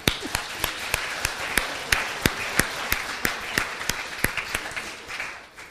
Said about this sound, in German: Vielleicht können wir den Mitwirkenden nochmal einen Applaus geben.